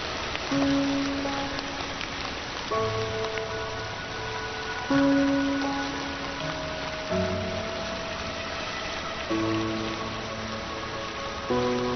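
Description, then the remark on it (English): Steady, dense monsoon rain hisses continuously in a forest, with soft sustained musical notes shifting underneath; no one speaks. “Months of daily rainstorms sustain luxuriant vegetation. The arrival of the monsoon awakens one of the forest's most extraordinary moisture-loving inhabitants.”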